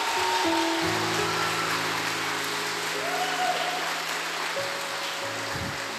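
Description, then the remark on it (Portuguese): Dense, steady applause from an audience clapping for the person beside them fills the whole clip at an even loudness, with sustained keyboard or organ chords holding underneath and no one speaking. “Dá um aplauso para esse irmão que está do teu lado, porque ele é filho de Abraão.”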